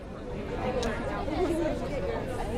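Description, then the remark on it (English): Steady crowd chatter, a dense murmur of many overlapping voices with no single speaker standing out, holding an even, moderate level throughout as a crowd gathers outdoors on the steps of Boston Public Library in the waning sunlight for a vigil for Nabra Hassanan. “In the waning hours of sunlight, a crowd gathers on the steps of Boston Public Library.”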